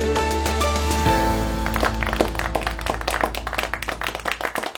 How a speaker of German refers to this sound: So ähnlich mag es geklungen haben. Am Ende gab es Applaus und ein gemeinsames erleichtertes Aufatmen bei den teilnehmenden EU-Finanzministern.